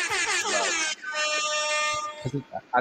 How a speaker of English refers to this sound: We're gonna throw out the air horn for that one.